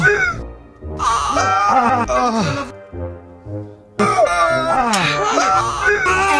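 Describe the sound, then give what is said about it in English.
A man lets out loud, wavering wails of pain while having his legs waxed, his voice sliding up and down in pitch, in two long bursts separated by a brief quieter moment. “I didn't notice it at the time, but actually, I'm quite musical when having my legs waxed.”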